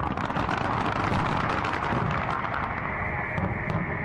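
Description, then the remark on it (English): A dense, loud barrage of fireworks at the opening ceremony of the 2018 Winter Olympic Games in South Korea, with rapid crackling bursts and rumbling booms overlapping continuously for several seconds against a wash of broad noise, and no voices. “Fireworks fly at the opening ceremonies of the 2018 Winter Olympic Games in South Korea this morning.”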